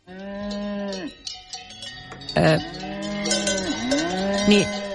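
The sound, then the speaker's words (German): Cowbells clank and jangle irregularly while cattle moo in long, low, drawn-out calls, one after another, over a steady rumbling background. “Keine Kuhglocken.”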